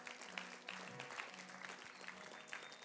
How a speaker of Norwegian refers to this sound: Skal vi gi hånd? Skal vi klappe for dem som har lagt hånda?